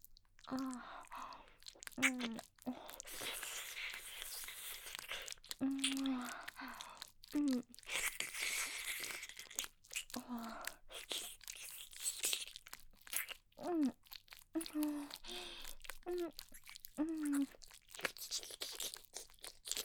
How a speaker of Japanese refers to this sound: 耳舐めてもらうだけでシコシコできて、お射精気分高まってきちゃうの、えらいですね。